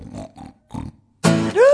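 Someone snores next door: three quick, rough snorting snores in a row, followed by a loud, sudden high whine that rises in pitch. No one talks.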